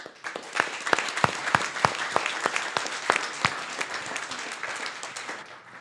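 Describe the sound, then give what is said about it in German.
A crowd applauds the volunteer team members steadily for several seconds, with sharp individual claps standing out from the dense clapping before it thins slightly toward the end. “Ihr dürft all unseren Dreamteamern nochmal einen richtig kräftigen Applaus geben.”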